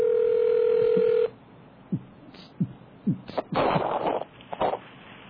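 A steady, loud telephone dial tone hums for about a second and cuts off, followed by a quick, irregular series of dialing tones and clicks as a prank phone call is made, with some brief noisy rustles near the end.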